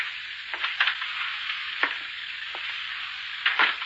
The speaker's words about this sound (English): It's really beginning to rain.